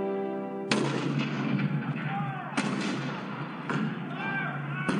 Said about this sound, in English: April 12, 1861, Fort Sumter. The cannon spoke for war. Bitter, violent, and devastating.